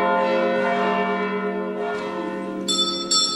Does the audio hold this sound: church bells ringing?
yes